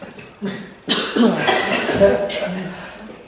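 A forceful, deliberate cough bursts out after a breathy exhale while leaning forward, as part of a breathing exercise, followed by more rough coughing and throaty sounds, fairly loud.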